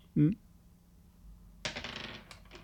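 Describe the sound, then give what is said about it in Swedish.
A die is rerolled, clattering and tumbling across a hard tabletop in a quick, rattling burst of small knocks that settles after about a second, preceded by a brief murmur from a voice. “Ja, jag slår om en tärning.”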